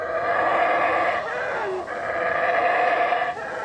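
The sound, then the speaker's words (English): Black howler monkeys howl in a loud, continuous, droning roar, with a few brief dips in the chorus. No one speaks. “They're black howler monkeys.”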